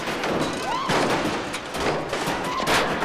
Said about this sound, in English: Buddy violently swings the sledgehammer at the bonnet.